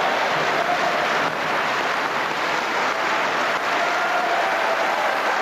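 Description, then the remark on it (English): A large crowd of conference delegates in Blackpool applauds steadily and continuously as Lady Thatcher and then Mr Major walk onto the platform, a dense wash of many hands clapping at once, loud and sustained without pause, with no speech heard over it. “recorded the applause when first herself, then himself, walked onto the platform in Blackpool yesterday”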